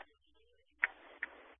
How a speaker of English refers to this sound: Fans are stomping their feet here, hoping for a stop.